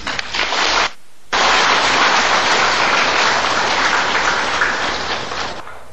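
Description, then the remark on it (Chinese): An audience claps steadily in a dense, continuous wash of applause as Master Ching Hai is invited to speak, broken by a brief gap near the first second, then holding loud before tapering slightly at the end. “现在呢，我们以最诚挚的心呢来恭请我们青海法师开示，热烈的掌声。”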